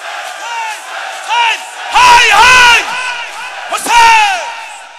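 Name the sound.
loud shouting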